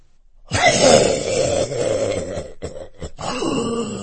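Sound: coughing fit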